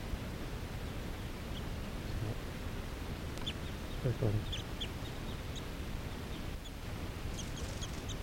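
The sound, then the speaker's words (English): Crossbills sitting in trees give scattered short, high 'kip' calls, faint, repeated irregularly over a steady background hiss and low rumble. “There's some crossbills sitting right here in the trees.”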